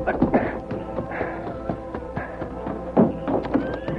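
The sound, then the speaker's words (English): A horse ridden off toward a ranch: hooves clip-clop in a quick, uneven series of hollow knocks, with a soft rustle underneath and a brief high whinny near the end. “Then he hurried out the back door, got his horse, and headed for the ranch.”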